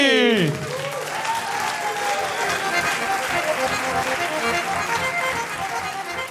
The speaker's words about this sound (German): Ja, Dame, die einzige Finalistin, stelle ich fest. Aus Zürich begrüßt mit einem tobenden Applaus